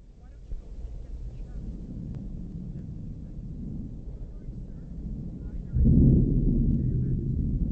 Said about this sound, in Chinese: 马车备好时，天空黑云密布，闪电大风带来了雨。